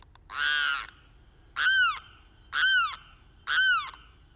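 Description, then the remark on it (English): A snail-eating wetland bird's wild, wailing scream rings out four times in a slow series, the first long and harsh, the next three shorter, each loud and downward-bending, with quiet between calls. “Its wild-sounding call is often used to convey a sense of tropical jungleness in movies.”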